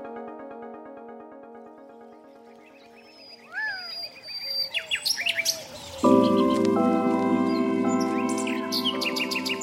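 birds chirping and singing

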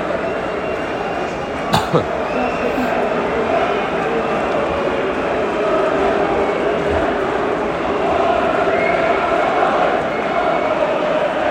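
stadium crowd booing

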